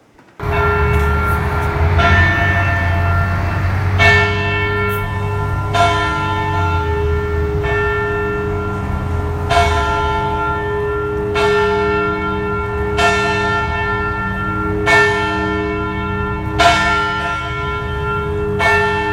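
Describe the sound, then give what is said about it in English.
A church bell in a steeple tolls loudly and steadily, about ten strikes roughly two seconds apart, each clang leaving rich, humming overtones that ring on beneath the next stroke. No voices are heard. “You see the picture before you of that bell that he made sure got here and which is in the steeple right now.”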